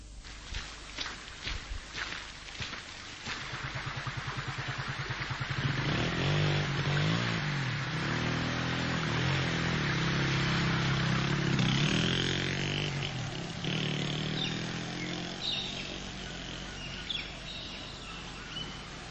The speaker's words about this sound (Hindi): जल्दी से स्टार्ट करो मोटरसाइकिल, मुझे बहुत देर हो रही है, स्कूल पहुंचना है मुझे।